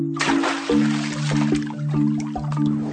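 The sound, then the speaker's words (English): A pied kingfisher dives into the water at Bung Porapet Lake with a sudden splash, followed by sloshing and trickling that fades over a few seconds, with a steady low droning tone running underneath. “Then they dive into the water, creating a shower.”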